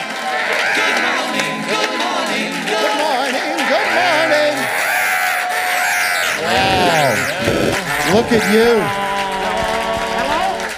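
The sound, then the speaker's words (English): A crowd of about 1,500 people cheers loudly and steadily throughout, with whoops, screams and clapping blending into a dense roar; a man briefly speaks over the noise. “But folks watching us right now, there are 1,500 people here tonight ready to have some fun, ready to laugh. Let's hear it! Stand up!”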